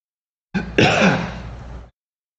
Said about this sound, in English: Sorry, I'm going to cough.